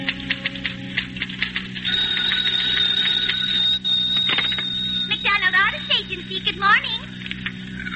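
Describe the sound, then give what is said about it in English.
A telephone rings with a shrill, steady electronic tone that shifts into rapid warbling trills, fairly loud, over a low background hum. “If Mr. Haskins want to take it on that phone, Mr.”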